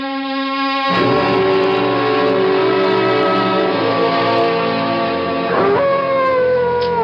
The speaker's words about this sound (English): What the devil is the matter with that dog, Chadsworth? Mr. Bishop, he misses his master. Being shut away from him, he dotes on the master, does old Whiskey. Only wish he'd be a little less vocal about it.